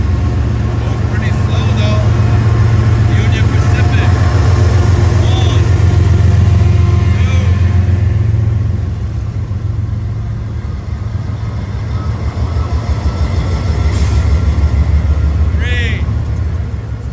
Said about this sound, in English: Here he comes, the choo-choo train. Union Pacific, the yellow one. I love those.